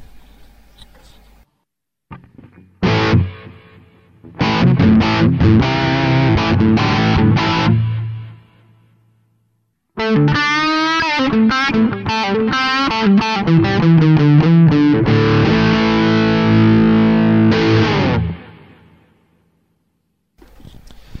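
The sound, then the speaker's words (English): Electric guitar chords strummed in loud bursts, each smeared by repeating echoes from a delay set to about 300 milliseconds with many repeats, plus a wash of reverb, the last chord ringing out and slowly fading into silence. “take a delay sound set to about 300 milliseconds and with quite a number of repeats on it.”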